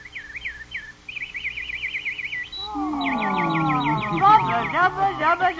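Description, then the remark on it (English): A nightingale sings alone before the emperor in the palace throne room, in quick, rippling trills, then the song swells into richer, overlapping warbles and sweeping notes that stay loud through the end. “And then the emperor gave the command. Nightingale, sing.”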